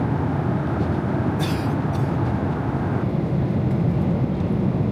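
A steady, dense low rumble of airplane cabin engine drone fills the whole stretch, loud and unbroken, with a brief hissy rustle near the start and no talking.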